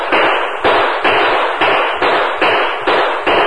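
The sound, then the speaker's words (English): A rapid string of about eight loud Winchester rifle shots, each a sharp crack followed by a brief rumbling tail, fired in a steady rhythm roughly twice a second, with no voices. “Those slugs are coming mighty close.”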